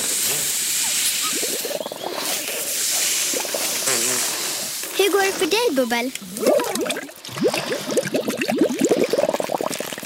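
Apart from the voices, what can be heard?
balloon being blown up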